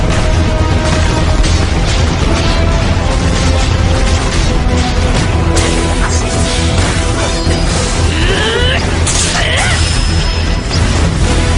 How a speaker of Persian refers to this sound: توپچی آماده شلیک باشید. الان نه، منتظر دستور باشید. آتش!